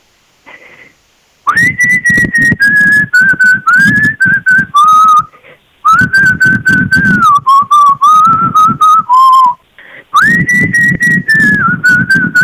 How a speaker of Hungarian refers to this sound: és fütyül egy nagyot. Én azt úgy tudom bírni, hogy így ilyen dögös. Nagyon jól fütyül.